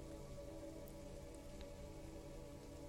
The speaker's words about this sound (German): Der Regen umspielt ganz sanft dein Sein.